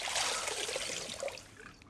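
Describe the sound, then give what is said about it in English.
A steady trickle of running tap water with soft splashing as a woman rinses her face, easing off slightly toward the end. “She rinses her face again.”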